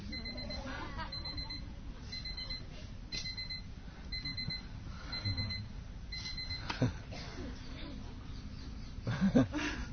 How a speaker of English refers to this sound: Oh, somewhere is an alarm clock.